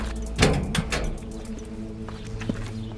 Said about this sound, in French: Je leur ferme la porte parce que avec le vent, ça claque.